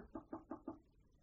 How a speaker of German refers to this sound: Sanneli klopft an einer Tür.